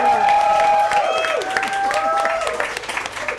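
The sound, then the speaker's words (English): An audience breaks into a dense, sustained round of applause welcoming guest Robert Llewellyn, with steady clapping and some high whoops and cheers riding over it, easing off slightly toward the end. “Round of applause, I think, please.”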